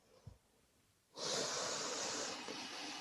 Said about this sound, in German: Durch die Nase ein, halte kurz inne und atme dann durch den Mund aus. Noch einmal durch die Nase ein und durch den Mund ausatmen.